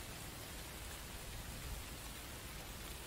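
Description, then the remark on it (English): Steady pouring rain hisses evenly across the whole moment, a dense, continuous wash of drops with a low rumble underneath and no voices. “I'm standing here in the pouring rain, wearing nothing but heels.”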